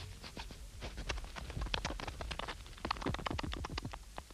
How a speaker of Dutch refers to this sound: Hoor, daar loopt iets. Dat zal Prikkeprik de egel wel zijn. Die houdt van nachtwandelingen.